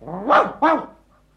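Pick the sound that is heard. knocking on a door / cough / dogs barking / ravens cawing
dogs barking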